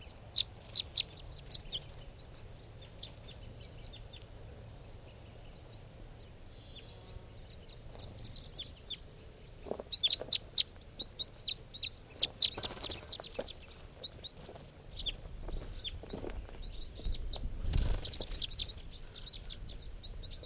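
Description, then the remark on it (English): Wild birds on the ground cluck and chirp in short, scattered calls, some sharp, others faint, over a low outdoor rumble. Nobody speaks. “There's one of the birds on the ground.”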